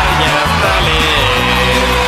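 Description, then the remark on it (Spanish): Loud, continuous applause for the children on Radio Punto 7, mixed with crowd cheers and whoops, sustained for a couple of seconds over a steady low humming tone. “Muy bien, aplauso para los niños Punto 7.”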